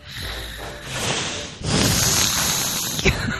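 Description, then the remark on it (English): A person makes a long, breathy hiss in imitation of a snake, the noisy rasp swelling louder after a moment and running steadily for a few seconds, ending with a brief sharp burst. “Go ahead and hiss for me once before we go.”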